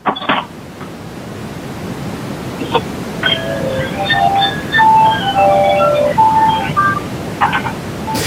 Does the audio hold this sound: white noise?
yes